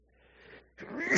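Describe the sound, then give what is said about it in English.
A single close, loud sneeze: a brief rising intake of breath, a short pause, then a sharp, forceful burst of air. “Indeed, while we are in this tent, we groan and we sneeze and we cough and other things.”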